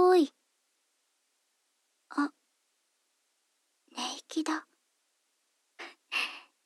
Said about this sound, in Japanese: 眠っちゃったんだね。かわいい息遣い、聞こえてますよ。